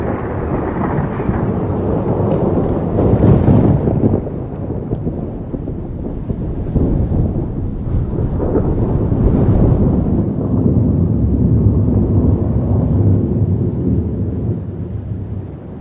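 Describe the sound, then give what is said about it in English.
A thunderstorm rages with deep, rolling thunder rumbling continuously and heavily, over a wash of rain and gusting wind with no voices. “Moisture evaporates from the warming ocean and rises to create great storms.”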